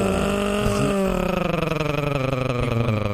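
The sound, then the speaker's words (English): A Keurig coffee maker brewing with a loud, continuous motor-like drone, its pitch wavering slightly as it churns and rumbles steadily throughout, with no voices. “Anyway, no, it's a Keurig.”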